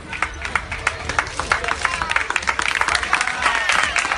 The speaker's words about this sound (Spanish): Antes ha recibido este aplauso de la gente que estaba viéndole entrenar en el entrenamiento del Athletic Bilbao.